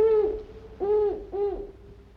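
Three clear owl hoots in a steady rhythm, the first drawn out and the next two shorter, fairly loud against a quiet background.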